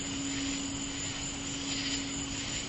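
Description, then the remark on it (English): A singing bowl rings with a steady, sustained low hum that holds an unbroken pitch throughout, wrapped in a constant airy wash of noise, with no voices. “As you listen to the singing bowl”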